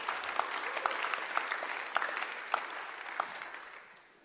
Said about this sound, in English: Can you say amen? Give God a hand clap and get engaged this morning.